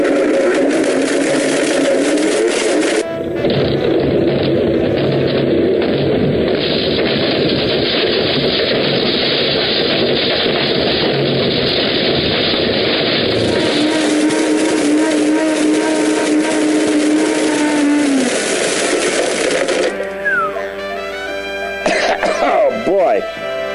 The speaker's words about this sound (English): Now I'm going to blend my old phone. I think I'm going to press the smoothie button.